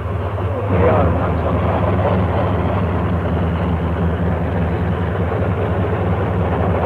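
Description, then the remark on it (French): A tank's engine idles loudly and steadily at a street corner in a city centre in 1956, a deep rumbling drone with a throbbing low hum that holds constant throughout, with faint background noise mixed in. “En voici un d'ailleurs, dont le moteur est en marche, et vous pouvez l'entendre ici.”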